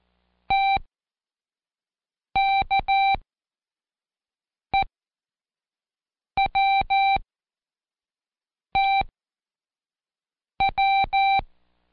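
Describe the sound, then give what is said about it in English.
Morse code letters T, K, E, W, T and W beeped out in a steady mid-pitched tone: six separate groups of short and long beeps, each letter followed by a pause, with no voices. “Next, put yesterday's 4 sound-alike cards letter side up in front of you and point to each one as I send the code.”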